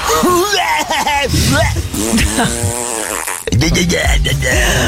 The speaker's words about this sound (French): Quel est le son, le bruit qui vous fait rire, Tom, aux réseaux sociaux? Moi, c'est Taz des Looney Tunes.